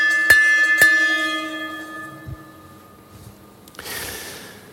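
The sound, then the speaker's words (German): Two sharp bell strikes close together, rung to start a second round, each leaving a long shimmering ring that fades slowly, followed by a brief soft rustle near the end. “Also, wir klingeln mal das zweite Mal und schauen, wie die zweite Runde aussieht.”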